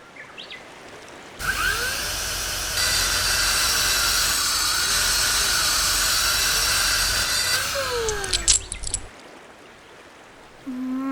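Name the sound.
drill whirring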